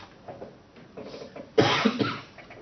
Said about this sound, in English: I'll try not to cough into the mic.